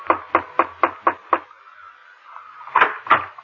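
Someone knocks on a chamber door: six quick, evenly spaced raps, a short pause, then two heavier, louder knocks. Clear, with no voices.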